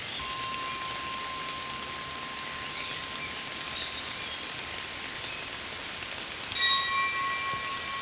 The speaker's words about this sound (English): How calm you are feeling now as the rain washes over you.